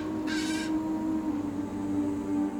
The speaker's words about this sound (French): Et nombreux sont ceux dont le pire cauchemar s'est réalisé sous les yeux de cet oiseau démoniaque. C'est ici qu'un des oiseaux de proie les plus rares du monde crie à la dévastation et sème la terreur.